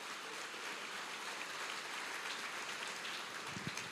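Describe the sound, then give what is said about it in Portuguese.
An audience applauds steadily, a dense, even wash of many hands clapping at once with no voices over it, a few low thumps near the end. “Então aplauda ele bem forte, em nome de Jesus.”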